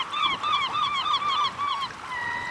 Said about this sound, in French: Le son, bah, ce serait le son des oiseaux. Parce que le matin, et ben, quand je me réveille, j'entends les oiseaux. Oui, les mouettes.